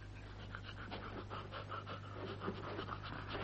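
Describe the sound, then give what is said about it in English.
An old dog named Nab pants steadily, quick rhythmic breaths repeating throughout over a low constant hum, with no voices present. “Now, what's that dog you've got there?”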